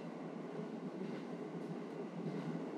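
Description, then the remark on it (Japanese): Steady, continuous rumble inside a moving train carriage, a dense low-to-mid roar with faint rattling texture, holding an even level throughout with no voices. “今乗っている電車にだって命を預けているわけですから。”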